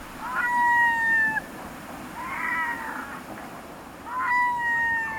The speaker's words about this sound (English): Loose groups of red-throated loons in flight, perhaps 1,000 altogether, stream past. The tide has turned at Deception Pass at the north end of Whidbey Island in Washington State.